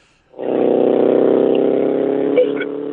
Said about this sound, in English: I'm giving you all kind of sound bites right now. I just had a random pair of motorcycle guys drive past me.